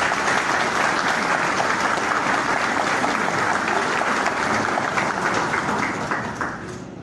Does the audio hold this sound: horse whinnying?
no